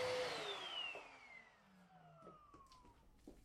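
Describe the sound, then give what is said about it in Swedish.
A vacuum cleaner, used by a 20-year-old young man cleaning a practice apartment at Almåsa on the coast outside Västerhaninge, roars, then is switched off, its motor whine sliding steadily down in pitch as it winds down, followed by a few faint knocks. “den som just har dammsugit heter Oliver”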